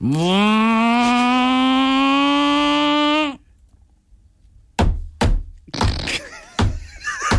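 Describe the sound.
A voice imitates an engine changing gear, going in second gear up a climb, holding a loud buzzing tone that rises slightly in pitch for about three seconds. After a brief silence come several sharp, clattering bursts.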